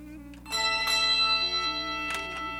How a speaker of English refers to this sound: This is the Junior Choir of St. Sagan St. Mesrop Church with the Nadag Bell Choir of St. Mary Church of D.C.